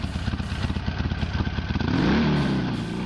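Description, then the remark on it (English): A Japanese motorcycle engine, not a Harley-Davidson, cranks over with a rapid, loping idle, then revs up into a louder, sustained roar. Loud throughout, with no voices. “The sound bullet you just played of a motorcycle starting was not a Harley.”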